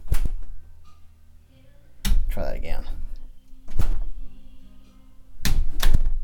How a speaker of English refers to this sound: Definitely lots of zipper noise on door slams and bassy events like wind. That, believe it or not, was a door slam in the bathroom.